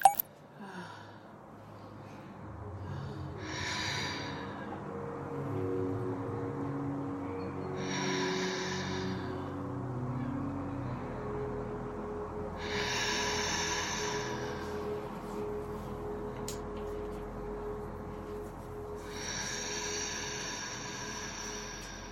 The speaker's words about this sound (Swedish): Ja, uppåtandning så är alltså en del av hypnobirthing, en andningsteknik i ja. Hypnobirthing.